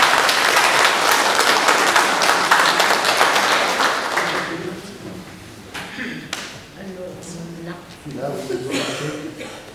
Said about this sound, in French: Avant même qu'elle commence, vous pourriez déjà l'applaudir pour la montagne de travail qu'elle a fait.